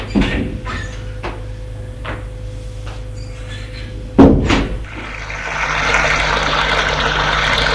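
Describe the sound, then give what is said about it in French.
A few light knocks and shuffles lead up to a man's bathroom door, which adjoins his bedroom, swinging shut with a solid thud, followed by a steady hiss of running water. “Reste en slip et va à la salle de bain par la porte attenant à sa chambre.”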